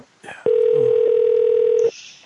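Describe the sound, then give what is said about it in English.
A steady, loud telephone connecting tone holds one unbroken mid-pitched note for about a second and a half, preceded by a brief murmur of voice and ending abruptly, as a call to Cox Manufacturing Company is connected. “Hold while we connect your call.”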